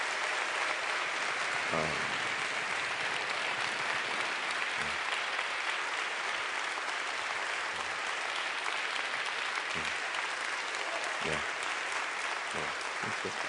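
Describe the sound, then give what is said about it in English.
Sustained, dense audience applause fills the whole stretch, a steady wash of many hands clapping at an even, fairly strong level, with a few faint voices briefly poking through. “Give a round of applause and stay here.”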